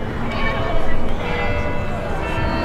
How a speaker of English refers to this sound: Bells chimed from the Montgomery County Courthouse clock tower Sunday for the first time since World War II. Residents braved scorching heat and lined the streets of Crawfordsville to see its dedication.